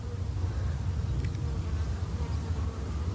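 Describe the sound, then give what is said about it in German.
A steady, low droning hum of many bees buzzing together within sight of their beehive, with faint individual buzzes passing through the swarm-like drone. “Wir sind hier in Sichtweite vom Bienenstock.”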